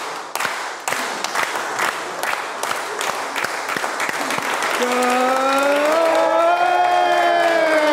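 An audience claps steadily in dense, rapid applause, with cheers and a sustained high whoop rising over the clapping in the second half.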